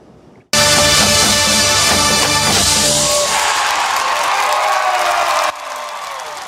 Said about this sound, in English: Why wouldn't the crowd go wild with that?